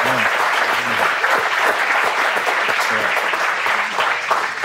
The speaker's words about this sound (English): So we should clap for Kobe.